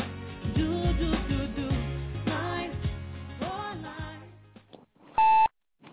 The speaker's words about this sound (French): Merci de laisser un message après le signal sonore avec vos coordonnées et l'objet de votre appel.